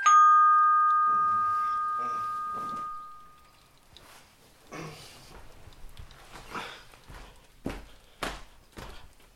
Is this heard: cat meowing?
no